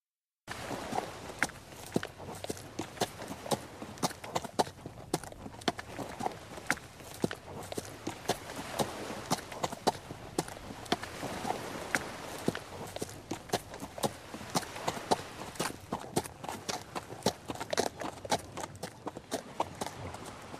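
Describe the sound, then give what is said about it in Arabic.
A horse walks steadily along the seashore, its hooves landing in a continuous irregular clip-clop over a soft, broad wash of background noise, with no voices. “وبهذا الصوت مستمعينا، صوت الخيل وهو يمشي على البحر، ننهي فقرتنا أو برنامجنا لليوم.”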